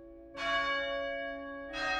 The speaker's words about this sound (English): Ring the bell. You ring the bell. Really quite fantastic sound. The sound of the bell. Ring the bell. You ring the bell.